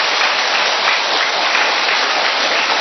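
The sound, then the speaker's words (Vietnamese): A large audience applauds to give thanks to God, a dense, steady wash of many hands clapping at once, loud and sustained for the whole few seconds with no talking over it. “Một tràng pháo tay thật lớn chúng ta tạ ơn Chúa.”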